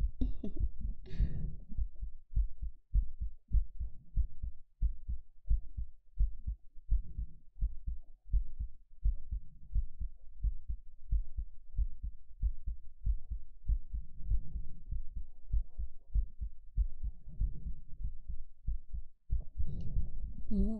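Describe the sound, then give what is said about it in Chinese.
A rapid heartbeat of a nervous person thumps steadily, deep muffled pulses repeating quickly for about twenty seconds with no voices, a brief rustle near the start and end. “心跳当然会快啊。”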